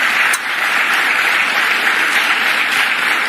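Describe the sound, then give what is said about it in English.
Sustained applause from a large crowd at a campaign rally, a steady dense wash of clapping that stays loud and even throughout with no voices rising above it. “I think he's just trying to say words, get applause.”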